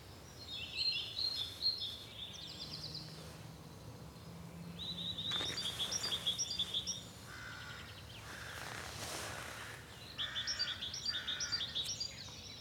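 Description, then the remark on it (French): A red-billed leiothrix sings in three bursts of quick, warbling phrases separated by pauses, clear over a low, steady outdoor background. “Ça y est, ils chantent le rossignol du Japon en longtemps, là.”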